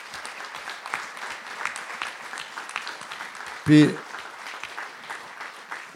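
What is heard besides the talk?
audience applause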